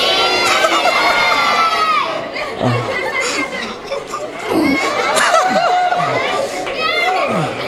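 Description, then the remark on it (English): A large audience shouts "He is risen" together on the count of three, many voices overlapping in a loud, sustained roar that breaks into cheering, high children's shouts and scattered laughter over nearly eight seconds. “If you do want to see us arm wrestle, then on the count of three, you need to shout, "He is risen."”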